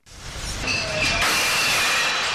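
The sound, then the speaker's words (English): A garbage truck, of the kind used as a giant mobile barrier at street rallies, roars steadily and loudly, its heavy mechanical rumble joined by a thin, high-pitched squeal and a brief lower whine, with no one talking. “That would be a garbage truck.”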